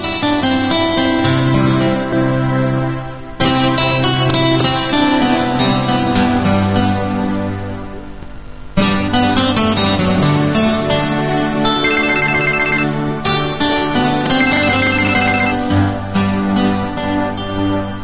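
A listener's requested song plays on a radio call-in program, loud, with bright, layered melodic instruments over a steady bass line. The music runs continuously, with two brief dips along the way, and no one talks over it.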